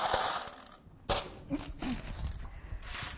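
Loose metal coins from many different countries, brought back from holidays, clink and jingle as they are shuffled and handled, with bright sharp chinks scattered irregularly over a soft rustling background.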